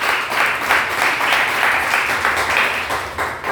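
audience applauding

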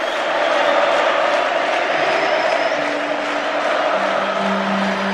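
audience clapping and cheering

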